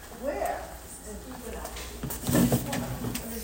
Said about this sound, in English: So I'm just going to close the door a little bit, actually, just because it's kind of noisy.